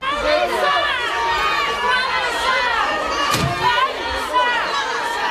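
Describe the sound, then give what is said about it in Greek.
A large crowd gathered outside a woman's house, demanding her exemplary punishment: many voices overlapping in a steady clamor with raised shouts rising above it, and a single sharp knock or bang partway through. “Μετά την είδηση περί προσαγωγής και άσκησης ποινικής δίωξης κατά της μητέρας των τριών κοριτσιών, πλήθος κόσμου συγκεντρώθηκε έξω από το σπίτι της, ζητώντας την παραδειγματική της τιμωρία.”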